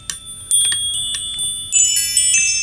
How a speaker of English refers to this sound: You know what, like, you've been listening to for the past couple songs because of our distinctive style, but those chimes will tell you that you were listening to Ski Cops on 91.5 WMFO.